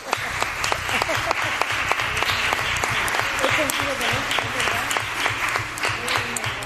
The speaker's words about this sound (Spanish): un aplauso para ella.